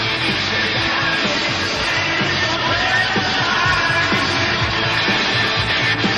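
A capacity wrestling crowd on its feet roars and cheers without a break after the referee awards a tag team bout by disqualification: a dense, steady wall of noise with scattered yells rising out of it, loud and sustained for the whole stretch.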